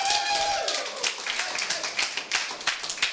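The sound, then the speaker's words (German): A crowd cheers and claps steadily for a woman who placed third in a competition, with dense overlapping hand claps and high whooping voices rising above, sustained and fairly loud throughout. “Ein richtiger Jubel. Sie ist Dritte geworden.”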